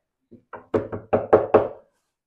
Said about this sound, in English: He hears that knock at the gate. Peter's out there knocking on a piece of wood.